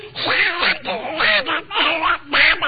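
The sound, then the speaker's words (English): A voice does a raspy, garbled Donald Duck impression into a BBC microphone, quacking out a run of speech-like bursts in quick succession while reciting Simple Simon, fairly loud. “I'm now going to do Donald Duck impersonating Huey Green impersonating Donald Duck.”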